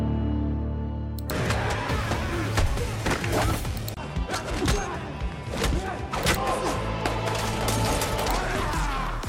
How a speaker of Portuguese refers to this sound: Eu ia pedir pro João colocar uma cena de tiro pra ilustrar